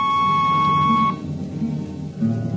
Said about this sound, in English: On a Hawk-class clunker in those days, damping was done by hand with a multiplying vernier and a danger peeper. Jetman slept with one ear tuned to that, and as long as the peeper ticked off slow and steady, we knew the ship was safe.